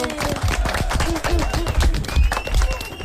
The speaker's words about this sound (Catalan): Bé, bé, no està malament. Un aplaudiment. Molt bé.